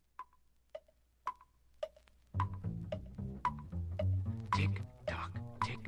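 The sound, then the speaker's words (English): A grandfather clock ticks in a steady, even rhythm, clear at first, then continues as tuneful music swells in and partly covers the ticking. “Grandfather's clock goes tick tock.”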